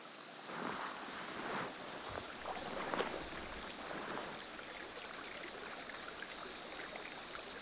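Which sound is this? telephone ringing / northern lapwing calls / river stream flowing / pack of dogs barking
river stream flowing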